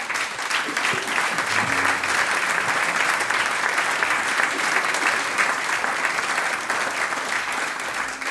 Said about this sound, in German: Und mit so einem großen Applaus darf ich jetzt auch den Hausherrn auf die Bühne bitten, nämlich Vizebürgermeister Dietmar Fuchs. Er hat gesagt, er macht euch jetzt Wandertag und kommt vierer zu mir. Applaus für dich!